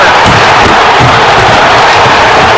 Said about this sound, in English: Listen to that angry mob.